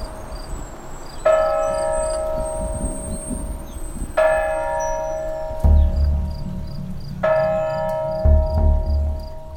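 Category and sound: signal or alarm, church bells pealing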